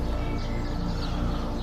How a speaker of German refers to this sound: Achte auf die Geräusche um dich herum. Das Zwitschern der Vögel.